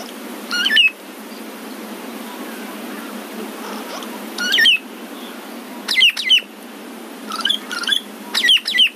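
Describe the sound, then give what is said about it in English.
Ground cuckoo-shrike calls ring out in short, clear bursts of high whistled notes, coming in separate groups spaced a few seconds apart over a steady outdoor hiss. “Michael sent in this recording of a ground cuckoo shrike”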